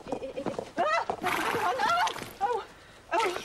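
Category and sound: animal, horse neighing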